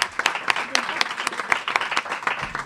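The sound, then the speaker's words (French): An audience applauding, a dense steady patter of many hands clapping with sharper individual claps popping out at a quick irregular rhythm, sustained at a fairly even level throughout. “c'était vraiment superbe, comme en témoignent les applaudissements du public.”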